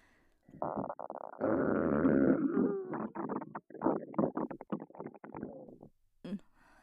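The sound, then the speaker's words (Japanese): A long, loud fart starts with a low buzzing tone, swells into a rough rumble, then breaks into a rapid string of sputtering bursts before one last short puff. “それにしても今日はいつもよりよく出るわ。”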